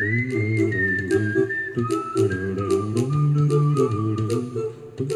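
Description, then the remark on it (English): A clear whistled melody glides over a song with warm, low backing instruments and a steady, crisp percussion beat; no one speaks. “I love this song. I used to whistle this in college when it first came out.”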